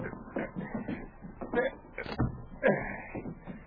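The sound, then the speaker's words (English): A wooden cabin door scrapes and creaks as it swings shut, with a short squeak and a solid knock near the end, moderately loud. “We'll close the door.”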